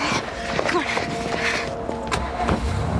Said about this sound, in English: She hands him car keys and they rush to the minivan and drive off slowly. The dark-haired man watches as the minivan cruises past the gold sedan.